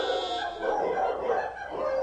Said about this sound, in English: The city fades away to a farm in the countryside. A dog stands in silhouette on a hill near a barn. It barks toward a field.